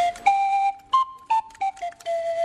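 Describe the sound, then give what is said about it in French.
A toy water trumpet, with pipes of different lengths that are filled with water to tune it, plays a breathy, flute-like melody of several sustained notes that climb slightly in pitch and then drift back down, with a faint gurgling warble and no talking. “On entend un son de flûte, mais son design est un design de trompette.”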